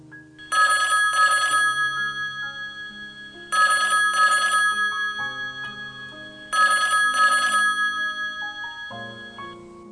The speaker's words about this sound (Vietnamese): Điện thoại reo.